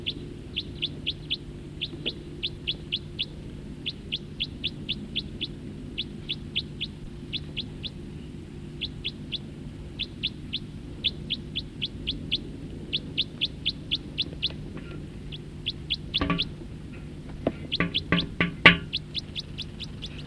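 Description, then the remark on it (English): Quick bursts of high, sharp chirps from birds calling, taking off and flying over repeat in steady runs for the whole clip over a low, constant hum, with a few louder, denser calls near the end and no talking. “Another one just flew over.”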